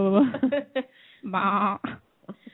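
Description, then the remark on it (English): A man's voice makes wavering, bleat-like sounds resembling a sheep, two or three fairly loud bursts with a quavering tremble, ending in a few faint short noises. “Sounds like a sheep, he does.”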